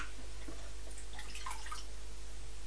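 household object, water splashing and dripping

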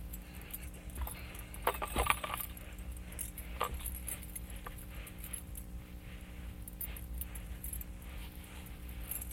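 household object, keys jangling

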